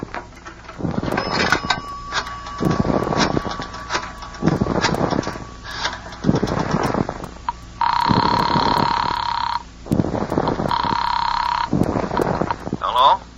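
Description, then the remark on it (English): A telephone rings twice in long, loud bursts, coming after a run of rhythmic clicking pulses, like a number being dialed. “But other than that, it will just take a phone call.”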